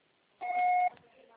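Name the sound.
voicemail recording beep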